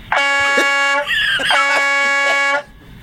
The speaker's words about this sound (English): But right now, this is what a truck horn sounds like in Lancaster.